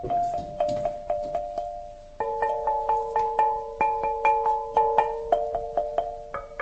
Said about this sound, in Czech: Některé z těch krápníků jsou velké a ty vydávají potom hlubší tóny. A ty menší vydávají vyšší tóny. Některé z těch krápníků mají dokonce i více hlasů. Tady třeba máme takové zvláštní, které zvučí dvojhlasně.